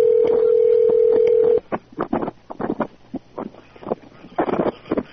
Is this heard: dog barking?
no